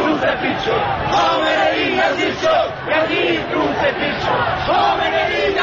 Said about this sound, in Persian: مردم سینه میزنند و شعارهای اعتراضی سر میدهند.